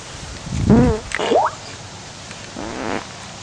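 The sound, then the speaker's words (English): Three short, pitched fart noises as someone tries to fart the Happy Birthday song, in a halting sequence, warbling and rising in tone as if carrying the tune, fairly loud, with quiet pauses between them. “16 years ago, I pooped my pants at our birthday party trying to fart the happy birthday song.”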